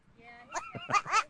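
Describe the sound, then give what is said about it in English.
A goat bleats in a few quick, wavering, humanlike cries, fairly loud, with a shaky, voice-like quality that almost sounds like a person calling out. “How about a goat that sounds like people?”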